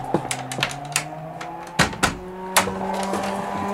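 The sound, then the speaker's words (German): A warning siren sounds because the shipyard is on fire, holding a steady, droning, sustained tone throughout, while several sharp knocks and bangs punctuate it irregularly. No one speaks. “Hörst du nicht die Sirene?”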